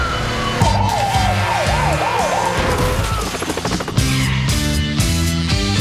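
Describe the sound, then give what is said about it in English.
A police siren whoops up and down in quick repeated cycles during a police chase of a Toyota Prius, loud, over driving dramatic music with heavy rhythmic chords and a burst of clattering noise near the middle. “Take you to a police chase involving a Prius.”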